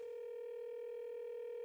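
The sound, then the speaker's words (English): A steady telephone ringing tone hums over the line as a phone call is placed, one continuous electronic buzz held at an even level for the whole moment, with no voices. “It's ringing.”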